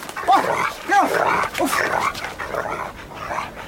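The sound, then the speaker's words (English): A dog gives three sharp barks in quick succession while kites (birds) harass it, then fainter yelping sounds follow amid a rough, rustling commotion, with no talking. “Leave the dog alone.”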